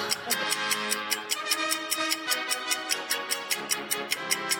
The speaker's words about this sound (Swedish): Få lite fanfar och en klocka som tickar ner, tack.